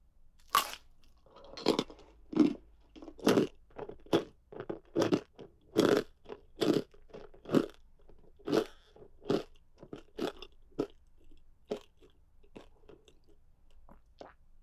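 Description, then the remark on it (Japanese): Loud, crisp crunching as a leg is bitten and chewed, about twenty sharp crackling bursts in a fairly steady rhythm that slows slightly toward the end, with no voices. “君、足、割と気に入ったから、あと3本くらい食べらんないかな。”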